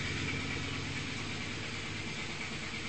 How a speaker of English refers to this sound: Except for noisy trucks during Bhagavatam class. We don't use those in service to Krishna.